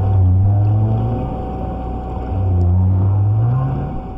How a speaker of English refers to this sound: made another recording of right whales at the Bay of Fundy, where Maine meets Canada